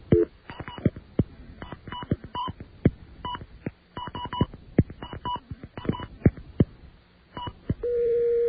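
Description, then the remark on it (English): A rapid run of touch-tone telephone beeps as a number is dialed on the ITT phone company's line after its dial tone, short crisp tones in an irregular sequence, ending with a steady tone at the close. No voices. “All right, now we dial the number we're calling.”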